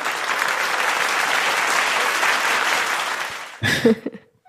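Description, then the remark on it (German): Steady crowd applause, a dense wash of many hands clapping at even loudness for several seconds, then cutting off abruptly into a brief burst of louder, lower voices. “Applaus für die Community.”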